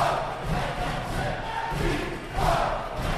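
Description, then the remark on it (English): A large crowd of about 12,000 protesters at the Michigan state capitol roars and chants together in a dense, continuous wash of voices, swelling louder in rhythmic bursts with no single voice standing out. “12,000 furious protesters flocked to the state capitol.”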